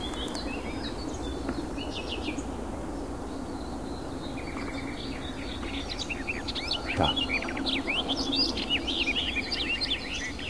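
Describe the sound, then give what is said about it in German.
Melodic bird song phrases, each about 2-3 seconds long, made of short repeated whistled and chirping lines from several birds, layered over a constant low rushing background noise, with no one talking. “Also es handelt sich ganz klar um ein melodisches Lied mit einer bestimmten Länge, so 2-3 Sekunden.”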